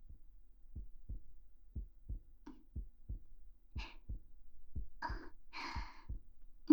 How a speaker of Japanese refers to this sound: それに、こんなに近いと、心臓の音まで聞こえてきちゃう。